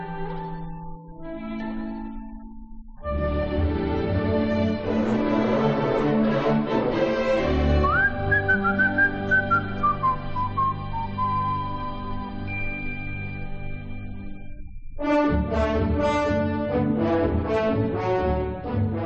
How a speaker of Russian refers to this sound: В Робине Корнгольд, отличный аранжировщик, как мы уже знаем, представляет только свою музыку, за одним исключением. Маленький Джон при встрече с Робин Гудом насвистывает старую английскую песенку.